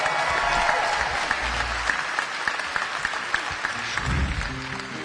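Steady, loud applause from an audience, a dense wash of clapping that holds for about five seconds without a break, with faint crowd murmur and a low rumble underneath.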